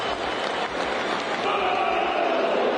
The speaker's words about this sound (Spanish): Bu. Creo que tiene razón el estadio. Le hacen bu, güey.